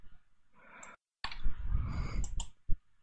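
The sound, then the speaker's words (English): Several sharp keyboard button clicks, fairly loud, pressed as push-to-talk shortcut keys, scattered irregularly over a low rumbling background, with a brief silent gap early on and no talking. “I have like three different buttons to do it on my keyboard.”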